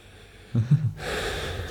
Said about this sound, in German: Ja, wenn ich gesoffen habe am Tag danach, atme ich richtig schwer.